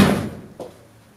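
A door swings shut with a loud thud, followed about half a second later by a softer knock as it settles, then quiet.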